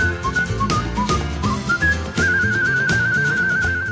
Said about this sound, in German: Er hat das Pfeifen, sein Markenzeichen, zur Kunst erhoben.